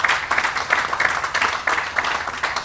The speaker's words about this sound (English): Let's give Stuart another great big round of applause.